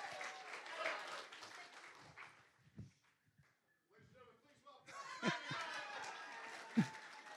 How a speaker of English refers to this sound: Big clap. There you go.